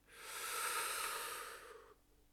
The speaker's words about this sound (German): Und ich lade dich mal zu einem tiefen Atemzug ein, einfach mal tief inhalieren, tief atmen